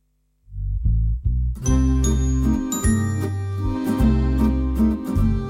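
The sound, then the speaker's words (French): An instrumental song intro: a few low, deliberate bass notes open, then bright chiming, bell-like tones and fuller backing join in a steady, mid-tempo rhythm, loud, with no voices. “Je vais vous dire juste un vers sur cette chanson et on va l'écouter après.”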